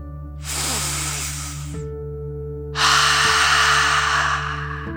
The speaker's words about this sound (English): Breathe in through your nose, filling up your belly, and then out through your mouth, imagining you are breathing fire like a dragon. Ready? Deep breath, in and out.